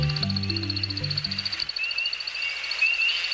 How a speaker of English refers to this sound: As the sun sets on a northern Midwest forest, we hear a most peculiar sound. It's an American woodcock aloft on a courtship flight. At sunset, the male woodcock walks slowly on short legs from the cover of the forest to a nearby clearing.